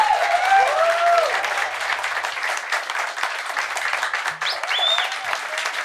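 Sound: audience round of applause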